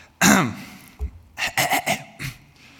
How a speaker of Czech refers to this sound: kašleme všichni, že jo?